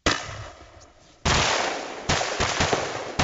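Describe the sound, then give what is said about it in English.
Loud bursts of rapid automatic gunfire from live firing drills by South Korean soldiers near the border, one sharp volley and then longer sustained stretches of crackling shots, with no voices. “Which is why Lieutenant Yoo and his men practice live firing drills just near the border.”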